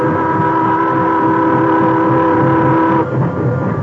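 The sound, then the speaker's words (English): A wood-fired steam train starts to move: a loud mechanical roar with a steady whistle-like drone that breaks off near the end, leaving rumbling engine noise. No one speaks. “When the time came, he went aboard with the others, and the train started.”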